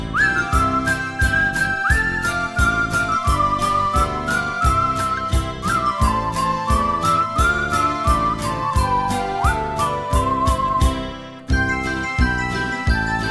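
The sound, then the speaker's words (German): A clear, high whistled melody glides and swoops over a loud, busy musical backing with a steady, driving percussion beat, continuing without pause for the whole stretch. “Hört her, wie schön mein Pfeifen schallt, das Pfeifen ist gesund.”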